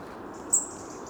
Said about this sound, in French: Alors, le rouge-gorge émet des petits cris. Là, on a un petit échantillonnage.